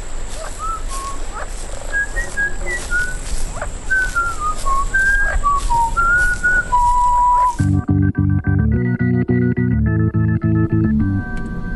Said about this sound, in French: Nous sommes sur une île. The Flacket Island. Et vous entendez cette voix? Oui, c'est sifflement. C'est peut-être un oiseau. Ça m'étonnerait. Trop élaboré. En tout cas, ça vient de l'intérieur de l'île.